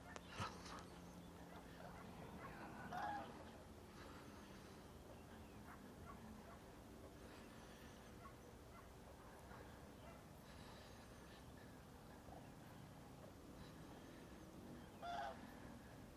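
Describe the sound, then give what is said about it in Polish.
A mixed flock of cranes and geese calls steadily outdoors beyond Toruń at sunset, a soft continuous chorus of honks and trumpeting with a couple of slightly louder calls rising above it, fairly faint. About 231 cranes, young and old, are on an island. “Są nie tylko żurawie, bo są też gęsi.”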